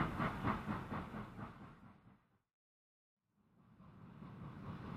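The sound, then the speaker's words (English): A train rumbles and clatters rhythmically as it pulls away from the station, fading out to a brief silence before the rolling rumble builds again, with no voices. “Look, the train is leaving the station.”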